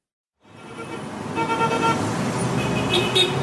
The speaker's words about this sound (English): Right now, you're hearing the streets of Caracas, Venezuela, specifically inside a bus.